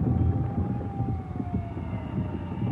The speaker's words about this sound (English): All through that evening and night, the sirens whined in the darkened city and the task of digging out was started.